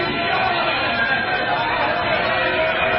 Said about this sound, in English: She's getting booed. She's getting booed off the stage in Philadelphia, folks. This goes on for quite some time. She was being booed off the stage in Philadelphia, friends, by her own party.